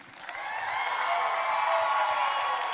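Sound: crowd cheering and applauding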